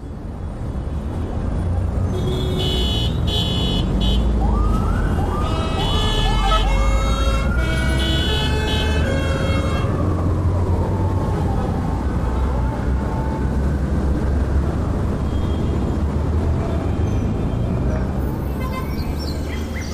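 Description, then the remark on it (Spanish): Busy street traffic rumbles steadily while car horns honk in a cluster of short, overlapping blasts, and a rising and falling siren wails through the middle before the noise settles into a constant road roar. “Vamos a escuchar una colección de claxonazos”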